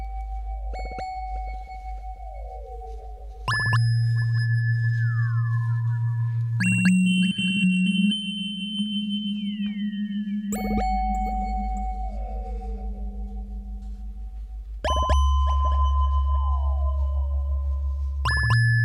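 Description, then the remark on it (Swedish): Electrical signals from a tansy plant rendered as sustained electronic tones, shifting in abrupt steps between pitches every few seconds, with gliding chirps and a steady low drone underneath; no speech. “Får vi höra hur de elektriska signalerna i form av toner då?”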